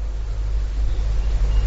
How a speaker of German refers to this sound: Es sind nur Autos. Ich dachte, es kommt ein Zug.